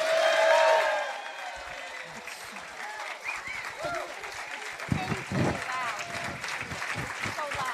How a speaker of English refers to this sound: We are live at the brand new Hearst Media Center on the campus of the Times Union newspaper in Colony, New York, before a live audience. And how do we prove to you that it's a live audience? They are going to applaud loudly.